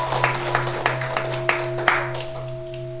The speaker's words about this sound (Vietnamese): Xin quý vị vỗ tay một tràng pháo tay.